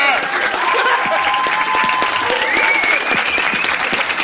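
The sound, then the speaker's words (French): A crowd applauds loudly and steadily throughout, a dense wash of clapping, with a few whistles and cheering voices rising over it. “faites-nous une sortie en trombe sous un tonnerre d'applaudissements.”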